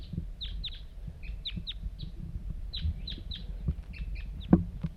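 A wild bird calls in a quick series of short, high, descending chirps throughout, fairly close and clear over a low, rumbling outdoor background.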